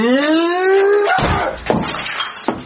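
A long rising tone gives way to three loud, heavy bangs on a locked door, spaced unevenly, with a crashing, almost splintering edge to each hit.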